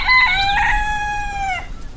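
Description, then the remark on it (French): A rooster with colourful feathers and a bright red comb, perched on a fence above a yard of hens out after the rain, lets out one long, loud crow that holds steady for over a second before dropping off, with no one talking. “Il chante avec panache, les plumes colorées, la crête bien rouge.”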